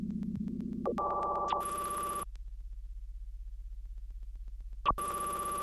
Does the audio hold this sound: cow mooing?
no